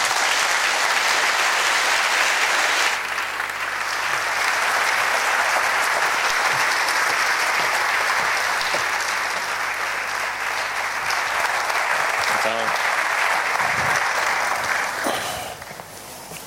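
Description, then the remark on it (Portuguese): An audience claps steadily as Dom Manuel Clemente and António Barreto are called to the stage for a debate on religion and Portugal, a dense, loud wash of applause that holds for about fifteen seconds before thinning out and fading at the end. “Peço uma salva de palmas, esperamos.”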